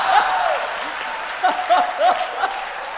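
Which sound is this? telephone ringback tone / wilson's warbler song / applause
applause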